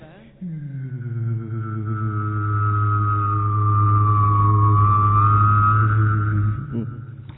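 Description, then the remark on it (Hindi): A voice imitates a passenger airplane landing with one steady, buzzing drone held for about six seconds, its pitch wavering slightly before cutting off abruptly. “फिर पैसेंजर जहाज लैंडिंग करता है।”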